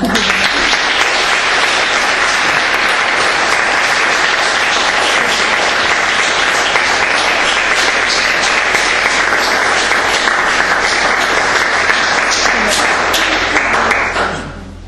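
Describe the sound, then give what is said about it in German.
An audience applauds steadily for about fourteen seconds, a dense, loud wash of many hands clapping at once that holds even throughout before tapering off quickly at the end. “Ja, und jetzt dürft ihr klatschen.”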